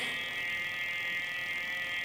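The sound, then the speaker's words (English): A phone buzzes steadily against a chair, a continuous mid-high vibrating drone with dense harmonic bands, holding at an even loudness for about two seconds with no voices. “This is the chair,”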